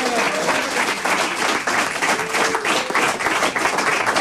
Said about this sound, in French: On est en public, donc il y a des rires derrière. Applaudissez-la pour l'encourager.